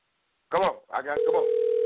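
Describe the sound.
A man speaks briefly, then a steady, fairly loud telephone ringing tone of an outgoing call sounds over the line, continuing as he talks over it.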